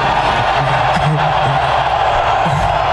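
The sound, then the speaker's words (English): A large crowd of football fans at the draft cheering and roaring in a steady, dense wash of noise, with scattered shouts and voices rising out of the din, as a player just selected by the Lions gets set for a TV interview on stage and looks out at them. “And then here's Arnold, after being selected by the Lions, getting set to do a TV interview on stage, and he looks out at the crowd.”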